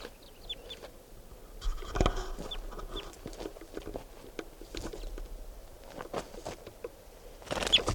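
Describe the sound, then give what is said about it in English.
A few brief, thin chirps from a wild bird giving flight calls, fairly faint, scattered among rustling, tapping outdoor noises with no one speaking. “Flight call. So recording, that bird will be number 482.”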